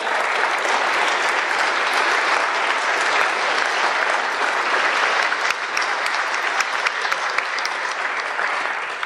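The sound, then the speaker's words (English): Sustained audience applause: dense, steady clapping from many hands that stays loud and even for about nine seconds, with no speech over it. “Let's give a big round of applause for everyone on the state, county, and local level that made this incredible year a reality.”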